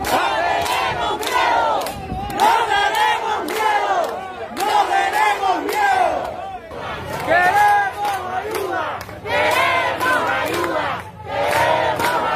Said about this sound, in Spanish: es que los cubanos salieron en masa a decir no más, a gritar basta ya.